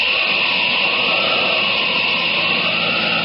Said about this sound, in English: What's that? It's a car. One man driving all by himself.